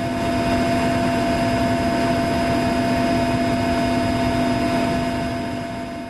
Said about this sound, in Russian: Там было шумно, но совершенно не качало. Возможно, потому что мы летели очень низко. Как мне объяснил пилот, на высоте 15-20 метров со скоростью 220 км в час. Вот так самолет с дистанции сложно засечь радарами.